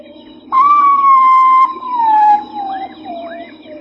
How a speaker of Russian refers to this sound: В ночном хоре амазонского леса любого индейского юношу волнуют более всего крики гигантского козадоя. Индейцы зовут его Урутау, мать луны